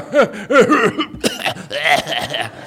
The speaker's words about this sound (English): You know you're getting older when your laugh turns into a cough. You know that kind of thing where it's like, "Well, that was a good joke."